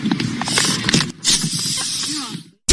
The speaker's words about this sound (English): you can actually hear the air leaving the tires because the elk walks over, puts his head down, and pops the guy's right front driver's tire.